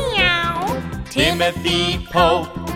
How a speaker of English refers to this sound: A shark! Fancy that! It's only a cat!